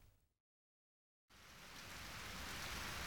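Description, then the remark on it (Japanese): Rain starts abruptly after a brief silence, a dense hiss of downpour that swells steadily louder and stays broad and continuous, with no voices. “おや、にわか雨かな。”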